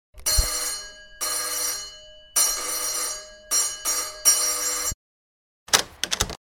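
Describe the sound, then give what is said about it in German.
A doorbell rings loudly in five bright, buzzing bursts separated by short pauses, then after a brief silence gives a few quick, clipped rings. No one speaks. “Wo ist denn da die Klingel?”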